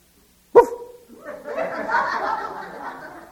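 A dog lets out one sharp bark, then a stretch of muffled laughter and chuckling from people follows.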